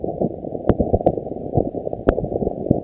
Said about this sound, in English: Here's what it sounded like in a recording made by a seismometer that was placed in the lake to measure ice quakes.